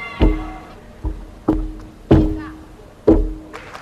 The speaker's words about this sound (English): What we're hearing there is the use of a thing called a contact microphone. So if you put one on a balance beam, a gymnast is walking along, you'll actually hear something that you would never hear naturally if you stood beside the beam.